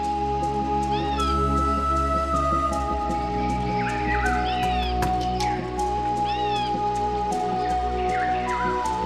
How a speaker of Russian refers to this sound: Паласов кот с научным названием Otocolobus manul является одной из диких кошек, существующих в Иране, и одной из самых таинственных и редких диких кошек не только в Иране, но и во всем мире.